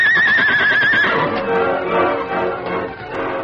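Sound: horse whinnying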